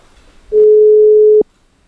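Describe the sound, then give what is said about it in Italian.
A single steady telephone ringing tone as a call is placed to a guest live on the radio programme Coraggio, a loud pure beep lasting just under a second, cut off with a faint click, then quiet. No one speaks. “E telefoniamo e ci parliamo subito.”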